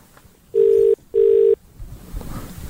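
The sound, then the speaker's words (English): A phone line ringing out as a radio host calls a contest winner who is listening along: two loud, steady mid-pitched tone bursts in quick succession, a double ring, followed by low background noise with no talking. “Let's call her right now and you can let her know, okay?”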